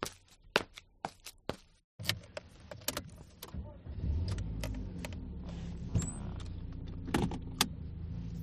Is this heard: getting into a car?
yes